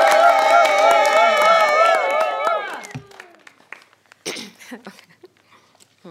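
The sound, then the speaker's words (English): A small group of people at a storytelling workshop claps and cheers, with high whoops and shouts loud for the first few seconds before fading into scattered, lingering handclaps. “All right, a round of applause.”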